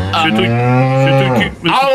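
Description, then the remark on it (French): A cow at the Salon de l'agriculture, Porte de Versailles in Paris, gives a long, loud, droning moo lasting over a second, then a brief pause before a second moo begins, rising sharply in pitch. No one speaks. “Vous êtes porte de Versailles. Vous êtes en train de vous occuper de vos animaux, c'est ça?”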